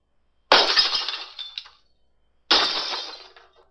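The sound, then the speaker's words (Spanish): Glass shatters loudly twice, each crash a sharp bright burst followed by a trailing scatter of tinkling shards, with a short silence between the two breaks and no voices. “Sí, se partió una ventana, una vajilla o algún objeto de vidrio.”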